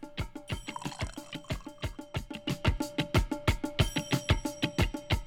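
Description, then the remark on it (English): A drink being poured from a bottle, with a steady run of rhythmic glugs that build slightly louder over several seconds, with no voices. “Let's give this a pour.”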